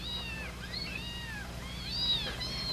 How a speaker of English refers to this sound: Newborn kittens, four of them.